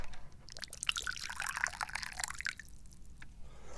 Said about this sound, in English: So, what are we doing? Well, I think I'm going to pour some more tea.